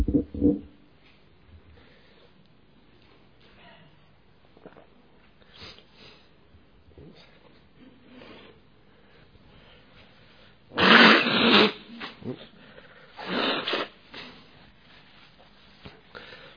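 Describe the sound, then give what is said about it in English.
At a Buddhist talk, a person blows their nose in place of a conch, in two loud, breathy honking bursts, separated by quieter shuffling and rustling amid an otherwise hushed audience. “We haven't got a conch here, so I'm blowing my nose instead.”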